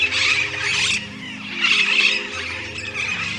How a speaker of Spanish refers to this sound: Y los chorolles, desordenados y en bandadas que ponían verde el cielo, ensordecían con sus gritos desafinados y alarmantes.